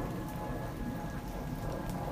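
rain falling

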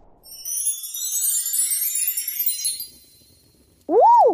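doorbell ringing

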